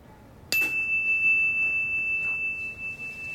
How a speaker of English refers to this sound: We're gonna listen. And when the bell stops, when you can't hear it anymore, raise your hand. Ready?